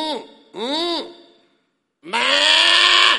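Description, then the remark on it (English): A man's voice imitates a sheep bleating: three fairly loud baa calls with a nasal, wavering tone, two short ones and then a longer, strained one after a brief pause. “He said, what about this sheep that I'm bleating here?”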